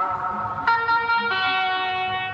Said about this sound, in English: It's full of traditions and idiosyncrasies, like the Rodania car that drives ahead of Belgian bike races, blaring an ad for Rodania watches. Rodania.